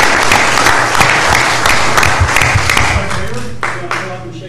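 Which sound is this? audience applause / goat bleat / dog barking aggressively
audience applause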